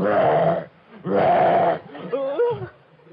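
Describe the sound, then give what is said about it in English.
A voice playing Mr. Wolf imitates a wolf's growl to sound ferocious: two loud, rough, rasping bursts, then a shorter, wavering, bleat-like vocal sound that rises and falls in pitch. “But I'm very ferocious. Listen to me growl.”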